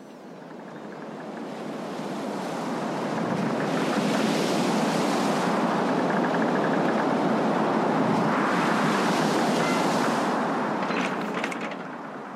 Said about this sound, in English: Not calm seas. Oh, it's pretty rough today. Pretty, pretty rough.